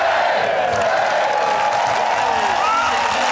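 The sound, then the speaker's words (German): A dense crowd of fans cheers and shouts continuously at an airport, welcoming their team home after it won the championship title. Voices blend into a steady roar with occasional whoops rising above it, loud throughout with no pauses. “Die Mannschaft wird euphorisch am Flughafen empfangen.”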